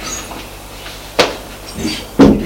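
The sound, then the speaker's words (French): A woman opening the door opposite her apartment to show a room: a sharp latch click, then a second, heavier knock-like thud a second later over a faint low hum, with no voices. “Elle va ouvrir la porte qui est en face du sien.”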